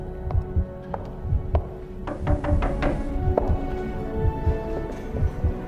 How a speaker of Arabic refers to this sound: تفتيش شبابيك. يلا خش خش دق على الشبابيك بعصاتك، بس يا ريت بشويش عشان الشباب نايمة وتعبانة من الصوم.